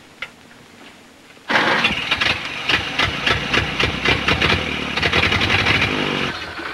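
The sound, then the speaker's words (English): After a brief quiet stretch, an old car engine abruptly starts up and keeps running loudly, with a rough, rattling, pulsing chug; the car rocks and shakes as the driver starts it. “She smiles at him as he starts the engine. The car rocks and shakes.”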